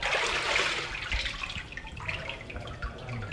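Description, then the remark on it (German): A papermaking wire mould bearing a museum watermark is dipped into a water-filled vat at a museum to scoop handmade paper, giving a steady rush of sloshing, splashing water with small scattered drips, fairly loud and continuous with no voices. “Und jetzt wird das Papier geschöpft.”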